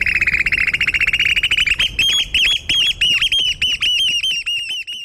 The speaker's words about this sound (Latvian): Jūras žagata tad ir melnbalta, viņa ir garas sarkanas kājas, garas sarkanas knābis, un viņa ir viena no bridēja putnu sugām, tātad iepriekš minētiem upes tārtiņam radiniece ne tuvu, ne žagatai.